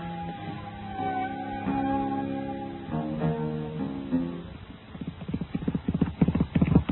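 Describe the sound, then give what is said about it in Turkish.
Horse hooves clip-clop in a quickening, uneven rhythm, growing louder toward the end, over a sustained tonal background with brief layered harmonic sounds early on. “İşte at dediğin böyle olur. Rüzgarla yarışmalı, rüzgarla.”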